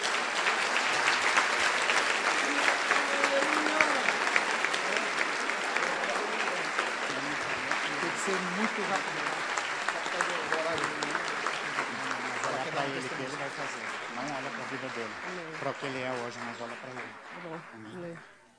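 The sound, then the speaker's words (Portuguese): An audience applauds the Lord steadily, with dense sustained clapping and scattered voices and cheers mixed in, holding strong for most of the time before fading out at the end. “E todos nós juntos vamos nos alegrar nele, como agora nós podemos aplaudir o Senhor que faz todas essas coisas.”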